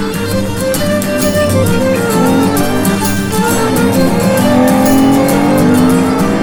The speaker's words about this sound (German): Autos kommen ihm entgegen, weichen panisch hupend aus, und der junge Geisterfahrer schaltet einen Gang hinauf.